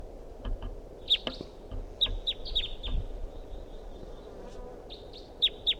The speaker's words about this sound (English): They're calling this a wild bird. And there's another wild bird in the distance.